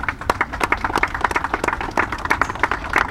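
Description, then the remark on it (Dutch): Pupils of the Otrobanda school community applaud as the coffin of Helmin Wiels leaves the funeral centre for parliament, a dense, steady patter of many hands clapping at once with sharp individual claps standing out throughout, no voices rising above it. “Het applaus kwam van de leerlingen van de scholengemeenschap Otrobanda.”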